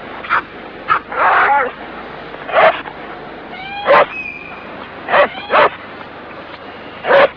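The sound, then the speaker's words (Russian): A dog barks in a series of short, loud, irregular yaps, with a rising whimper or whine slipped between the barks. “Ты зачем собаку дразнишь? Зачем над ней издеваешься?”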